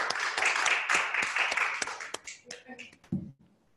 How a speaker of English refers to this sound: Will all people doing service for OA at any level please stand and applaud service? Woo-hoo!